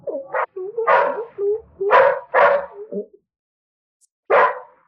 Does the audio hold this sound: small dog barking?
yes